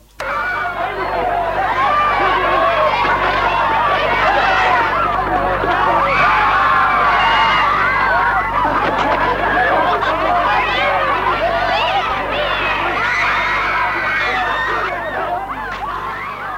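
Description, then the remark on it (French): Children's voices fill the air at a steady, lively level, a dense babble of chatter, shouts and giggles, as of many kids playing and chasing each other outdoors on a square in the shade of trees, without pause. “En bas, à l'ombre des arbres, des enfants jouent sur la place en se courant après.”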